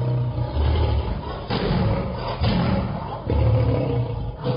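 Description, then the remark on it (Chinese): A young lion roars at a man in a vineyard at Timnah in several deep, rumbling bursts, loud, each swelling then easing off, with no voices present. “他走到亭拿的一个葡萄园，忽然有一头少壮的狮子向他吼叫。”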